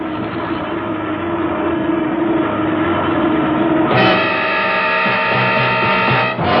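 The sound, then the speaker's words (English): A propeller plane with one engine on fire drones loudly and steadily as it goes down, then abruptly jumps to a higher, straining whine partway through. No voices are heard. “Hey, that engine's on fire. It's burning.”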